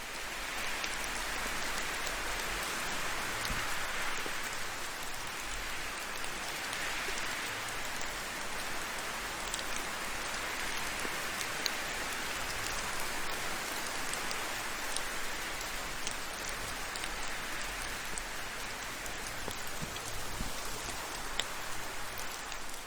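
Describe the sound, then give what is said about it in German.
Steady rain falls continuously, with individual drops pattering on a surface in a dense, even hiss that stays constant throughout. No voices are present. “Während du den Tropfen des Regens lauscht, mit den Geräuschen des Windes sanft folgst gibt es für dich nichts weiteres zu tun”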